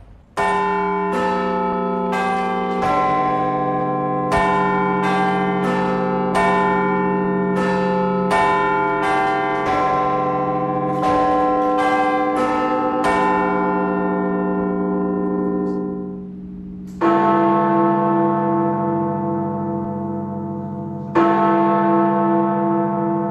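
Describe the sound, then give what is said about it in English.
Big Ben, the bell of the great clock in London, strikes at the top of the hour, heard from the belfry: a rapid sequence of ringing chimes gives way to two heavy, booming strikes whose resonant tones hang and slowly decay. No one speaks. “We head up to the Belfry with extraordinary views across London and Big Ben, the bell that has given the clock its nickname.”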